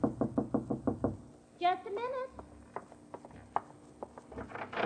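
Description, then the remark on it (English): A rapid run of about seven firm, loud knocks on a door, followed by a brief voice and a few scattered clicks and taps. “Suddenly, the girl straightens, but it is not his knock.”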